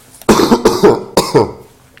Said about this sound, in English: I'm going to cough.